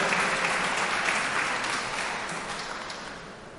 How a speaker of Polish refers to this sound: I tym razem również, drodzy państwo, wielkie brawa dla pana marszałka